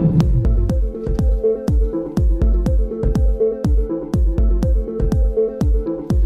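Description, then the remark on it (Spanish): A short synth-pop music sample, a fragment taken from an older pop song, repeats in a tight loop throughout a new track as background and melody, with punchy, evenly spaced beats over a steady bass line and sustained synth tones, loud, with no voices. “Es un bucle, un loop, como suelen decir los técnicos en esta materia.”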